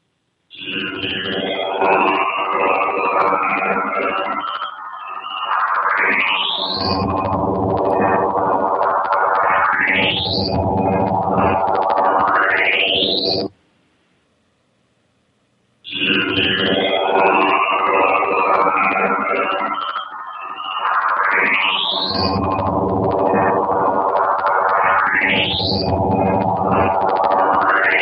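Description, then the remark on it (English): A radio signal raised in pitch by 12 tones in Cool Edit Audio Editor plays as two long identical passes separated by a short silence: a dense, warbling electronic tone with rising swoops and chirps, loud and continuous, no voices. “Same radio signal now raised in pitch by 12 tones in Cool Edit Audio Editor.”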